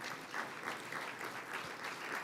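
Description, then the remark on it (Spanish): An audience applauding each person who comes forward during a church service with music, a dense wash of many hands clapping with a few swells in intensity, with no voices standing out over it. “Otro pasó, otro aplauso.”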